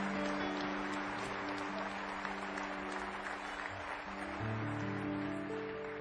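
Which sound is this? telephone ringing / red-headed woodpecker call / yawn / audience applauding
audience applauding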